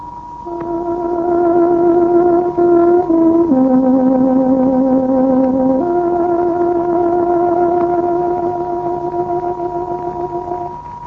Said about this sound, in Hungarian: Kedves hallgatóink, pontos időjelzést adunk. Tárogatónk 24 órát jelez.